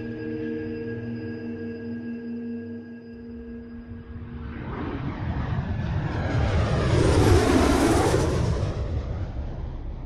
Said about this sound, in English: The private plane lands in Los Angeles International Airport.